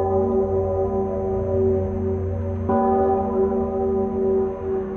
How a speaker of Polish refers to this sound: W tradycyjnej procesji świętego Stanisława z udziałem Episkopatu Polski z katedry na Wawelu do klasztoru ojców Paulinów na Skałce towarzyszyło uroczyste bicie dzwonu Zygmunta.